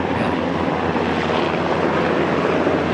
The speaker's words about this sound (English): And we just have a helicopter passing right overhead.